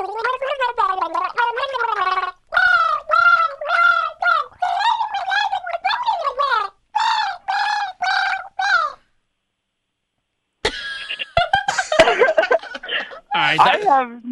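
A person gargles water along to a song in a wobbling, tune-like pattern of bubbly bursts, pauses, goes silent for a moment, then sputters and gargles again with some snickering laughter.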